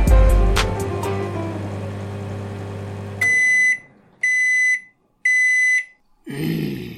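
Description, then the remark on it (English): Three loud, shrill electronic alarm beeps sound in an even rhythm, each lasting nearly a second, following a burst of clattering noise and low rumble. “Do you think that that durian fruit I bought you has set an alarm off?”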